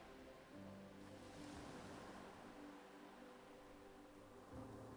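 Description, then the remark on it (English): Steady ocean surf washes continuously onto a beach, with broad hissing swells rising and falling as waves break, over a soft, low sustained drone. No talking. “You hear the waves.”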